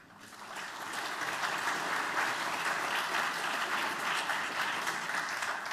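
An audience applauds steadily, many hands clapping in a dense, even wash of sound that swells in over the first second and then holds at a strong level without voices.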